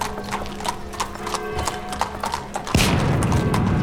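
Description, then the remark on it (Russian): A horse-drawn carriage's hooves clip-clop in a steady, even rhythm for almost three seconds on an embankment with people and carts, 1 March 1881; then a sudden loud boom, a bomb thrown at Emperor Alexander II's carriage, cuts in and leaves a heavy, sustained rumble to the end. “Я вижу людей, повозки. Вон там едет карета.”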